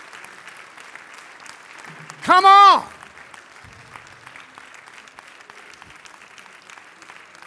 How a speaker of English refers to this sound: Come on, just keep applauding, because you know what? It's encouraging folks to say, you know what? It's going to be different.